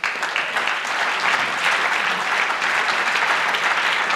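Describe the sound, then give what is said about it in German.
An audience claps steadily to welcome a youth project team presenting their project, a dense crackle of many hands keeping a fairly even, moderately loud level throughout with no voices standing out. “Einen ganz herzlichen Applaus.”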